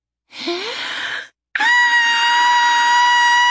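A woman draws a deep, breathy inhale, then after a brief pause lets out a long, loud, steady-pitched scream at a bear that holds for about two seconds.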